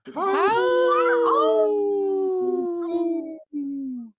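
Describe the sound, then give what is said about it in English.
A child's voice imitates a wolf howl: a long, loud, wavering note that rises and then slowly falls, with a brief break before a final short tail. No other talking. “I heard one of them howl a little bit, right?”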